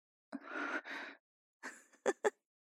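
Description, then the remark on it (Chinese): A woman's heavy, breathy exhalations: two long drawn-out breaths, a brief pause, then a quicker ragged breath and two sharp gasping pants. No talking. “那为什么阿姨你的喘息声越来越重了呢？”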